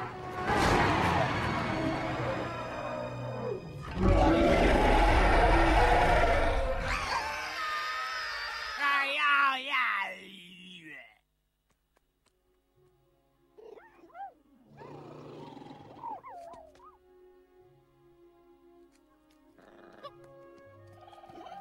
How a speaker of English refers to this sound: Mama roars in triumph, and the babies copy her.